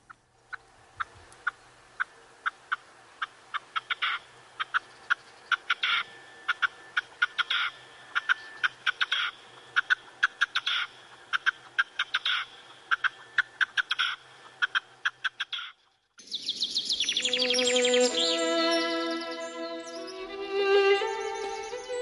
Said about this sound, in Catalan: Doncs, si et sembla, tornem a escoltar el cant de la perdiu roja.